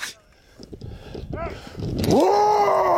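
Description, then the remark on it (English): Two men roar at a bear, letting out a loud, sustained yell that swells near the end and holds steady, following a stretch of rustling outdoor noise and a few brief vocal sounds. “They're both kind of roaring. at the bear”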